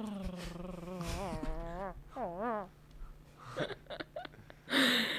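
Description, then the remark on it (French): In a studio, several voices imitate dogs, with wavering howls and whines, gruff growls and a few short bark-like yelps overlapping, then a burst of noisy laughter-like sound at the end. “On a, en fait, vous pouvez nous faire un petit concert de chiens, là?”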